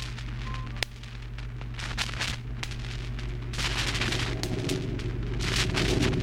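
Thunder rumbles low and steady, broken by crackling bursts and one sharp crack early on, swelling louder toward the end with no voices.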